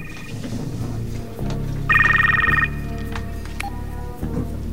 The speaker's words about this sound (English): Hearing the telephone, he walks over to an overturned table and reaches into a drawer, pulling out a mobile phone.